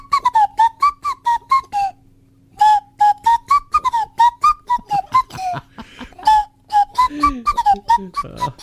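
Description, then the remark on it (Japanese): Someone whistles an imitation of a phone ringtone: a bright, choppy tune of quick staccato notes, a short pause, then the jingly phrase repeating loudly with no talking over it. “なんであんな着信音なんだろうねっていう話をしてたんだ。”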